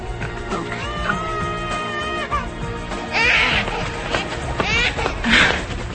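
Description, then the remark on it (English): A baby girl cries in wavering, high-pitched wails that swell into two louder, strained bursts near the end, fairly loud over faint background noise. “Sometimes she just likes to cry.”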